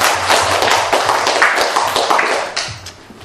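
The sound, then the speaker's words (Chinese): A crowd applauds steadily for about three seconds, a dense wash of many hands clapping at once that holds fairly even before tapering slightly at the end. No one speaks. “刚才为着我们来给一个掌声，好不好？”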